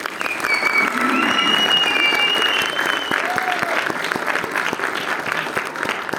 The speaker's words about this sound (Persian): بچه این تشویقه میتونه ادامه دار باشه، این فیلمی که دارید ببینید و قرار ببینید واسه زحماتشون هست.